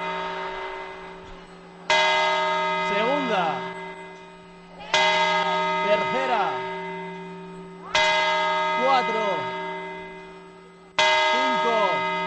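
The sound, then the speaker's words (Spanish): The Puerta del Sol clock bell tolls four times for the New Year's midnight chimes, about three seconds apart, each loud strike ringing out and slowly fading, with a voice talking faintly underneath as people hold grapes and glasses. “Último cuarto, van las campanadas, la gente con las uvas en la mano, las copas.”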